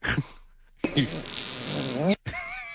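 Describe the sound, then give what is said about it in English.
A loud, drawn-out fart noise, buzzy and sputtering for over a second after a brief opening blurt, then a short whiny squeal trailing off at the end. “You like farts?”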